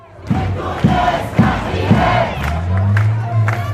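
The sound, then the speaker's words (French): Hundreds of Tunisians rally in central Tunis in support of the Soumoud caravan for the Palestinians; the large crowd chants in unison with a steady, rhythmic beat, loud, voices rising together in repeated shouted phrases with a dense murmur of the gathered mass underneath. “Le reportage dans la foule de notre correspondante”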